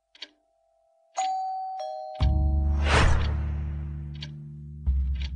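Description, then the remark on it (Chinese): A doorbell rings a clear two-note ding-dong, high then lower, immediately swallowed by a deep, sustained booming rumble with a hissing swell, and no one speaking. “门铃居然在这个时候响了”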